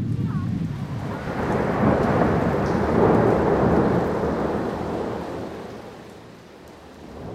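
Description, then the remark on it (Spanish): Heavy rain pours down steadily in a dense, continuous roar, with a low rumble beneath it that swells midway and eases slightly toward the end. No one speaks. “qué manera de llover.”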